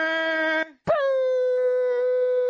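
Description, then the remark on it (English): A voice imitates air horns with two loud, blaring blasts. A short steady honk is followed by a brief pause, then a longer held tone that swoops up before leveling off at a higher pitch. “I was just hitting the air horns.”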